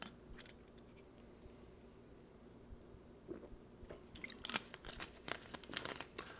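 Crackly plastic crinkling from a Wild Cherry Diet Pepsi plastic soda bottle being handled while someone takes a sip, a scattered run of sharp pops and crunches that get busier toward the end, with no voices.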